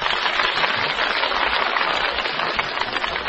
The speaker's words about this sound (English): Your applause only for number 4,